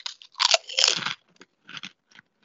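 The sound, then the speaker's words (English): Loud crunching of a crisp Twisted Lime flavored snack chip: a dense burst of bites in the first second, then a few softer, scattered crunches as chewing continues, with no talking. “I mean, it's certainly crunchy. It's very limey.”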